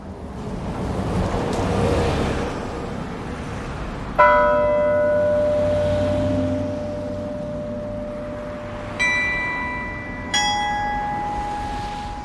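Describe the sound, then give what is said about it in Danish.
Carillon bells, 49 large bells hanging at the top of the 60-metre town hall tower at Frederiksberg Rådhusplads, ring out the opening notes of an evening hymn over the town. Three resonant strikes linger and overlap above a steady rushing wash of outdoor background noise. “Aftensalmen til Niels har lige spillet sine første toner ud over byen.”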